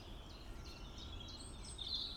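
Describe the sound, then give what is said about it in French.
A European robin sings, thin high warbling and trilling phrases running continuously over a steady low outdoor rumble, with no voices. “Rouge gorge là.”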